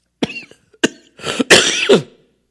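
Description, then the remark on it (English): A person coughs several times, a couple of sharp short coughs followed by a longer, rougher hacking burst that trails into throat clearing, with no talking. “I tried not to cough. I really did.”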